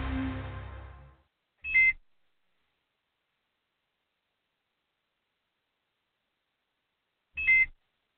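ankle monitor beeping

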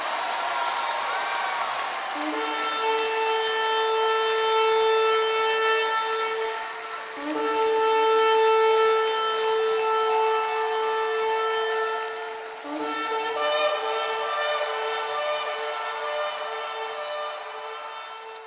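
shofar blast

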